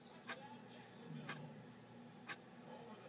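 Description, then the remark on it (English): A clock placed underneath a TV ticks three times at roughly one-second intervals, each tick a crisp click standing out over a steady low background hum. “Tick, tick, tick.”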